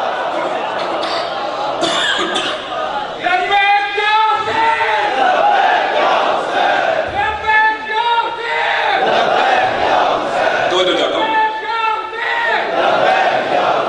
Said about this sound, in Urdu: نعرہ حیدری آئمہ کے نعرے لگائے.